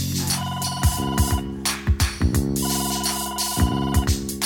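A phone rings with a melodic electronic ringtone, its bright tonal phrases repeating with soft thumping beats underneath, heard up close and steady, with no one talking.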